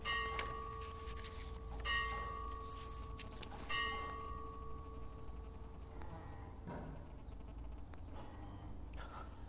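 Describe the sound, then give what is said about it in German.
A bell that needs repairing rings with several strikes in the first few seconds, each leaving a long humming, slightly buzzy tone that lingers and slowly fades, with fainter knocks later on and no voices. “Die muss repariert werden, die Glocke.”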